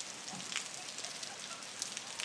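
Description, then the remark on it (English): Steady rain hisses while heavy drops spill from full, overflowing rain gutters, landing in irregular, louder splats over the constant wash of rainfall. “And that big, them big drips you can hear are rain gutters are full and it's dripping out the guttering, but.”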